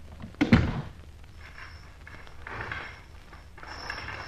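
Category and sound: household object, door being shut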